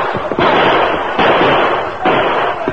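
gunfire

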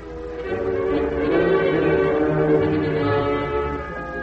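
mission church bells ringing

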